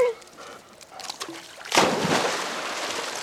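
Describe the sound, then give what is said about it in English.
A dog leaps into a backyard pool in Tucson to get a ball thrown by a 10-year-old boy, with a sudden, loud splash after a quiet lead-in, followed by a couple of seconds of churning, sloshing water. “I said that he was going to jump in to get the ball, and he likes to jump in and get the ball.”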